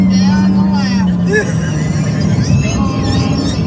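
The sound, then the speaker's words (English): A car engine hums loudly, its pitch climbing as the car speeds back up on the road to get behind a pickup truck it had passed, with muffled voices murmuring underneath the steady road noise. “So he has passed this person already, and now he's speeding back up to so he can tape and show you what he saw.”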